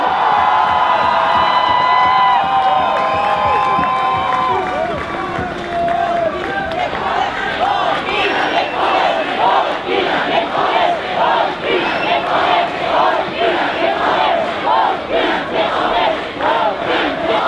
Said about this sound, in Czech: Ještě jednou, pojďme si to užít, potlesk pro Martinu Sáblíkovou a Ester Ledeckou!